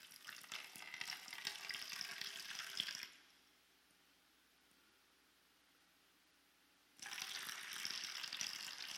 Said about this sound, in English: the whole room eventually just would come to a hush until all that you can hear is the sound of pouring water.